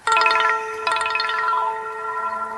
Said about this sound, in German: Das ist jetzt also, wie man hören könnte, ein Klingelton gewesen. Ne? Das ist so ein typischer Trigger, den jeder von uns kennt im Alltag.